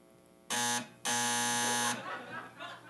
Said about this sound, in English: It's a doorbell.